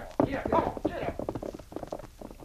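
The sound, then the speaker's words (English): Horses' hooves clip-clop in a steady, uneven rhythm as two riders on saddled horses ride away over a ridge, growing slightly fainter as they move away, with a voice briefly heard over the start. “The sergeant watched the men ride over the ridge before he started for the site he had picked for his camp.”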